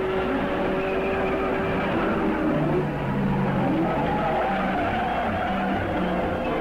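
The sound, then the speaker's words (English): Jimmy Clark's race car roars steadily through turn four during a race, with rising and falling engine tones and a hint of tire squeal over a dense, continuous motor drone. “Clark comes through turn four.”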